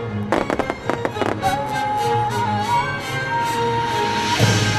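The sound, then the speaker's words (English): Fireworks at a free nighttime concert at the Hollywood Bowl in Los Angeles for the LA Phil's centennial celebration: a quick cluster of sharp bangs goes off in succession, followed by a lingering rumble and whistling tones, then one more burst near the end, all loud and outdoors. “Angelino started at the Walt Disney Concert Hall and ended with a free nighttime concert at the Hollywood Bowl, complete with fireworks.”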